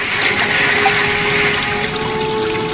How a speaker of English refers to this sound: She goes to turn on the tap. Dahlia pulls back in fright as the tap spews out a torrent of water which starts off dark brown but then clears.